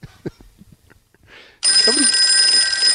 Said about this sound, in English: That's part of the bit, is right. The phone's ringing. Start it up again.